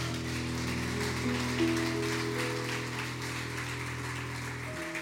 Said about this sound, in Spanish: ¿Te animas a dar otro aplauso grande al nombre de Jesús?